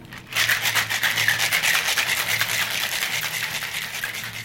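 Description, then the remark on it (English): A cocktail is shaken hard and fast with egg whites, a steady rhythmic swishing and sloshing that starts abruptly and continues for about four seconds, with no talking. “This one needs a really good long shake.”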